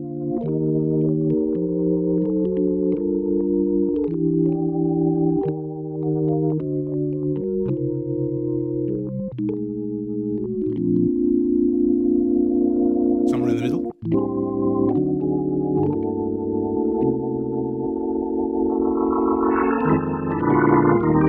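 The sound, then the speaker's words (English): A keyboard synthesizer, sustain pedal down, rotary off and its macro knob turned to the very darkest setting, plays dark, muffled sustained chords that shift steadily in pitch, with a brief dropout midway and a slight brightening toward the end. “And so it can make this quite dark sound very bright.”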